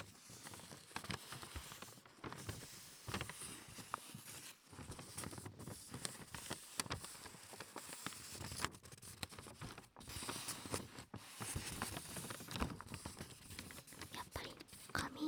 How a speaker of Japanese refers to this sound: 薄い音しますね。すっごい薄い紙なんです、これ。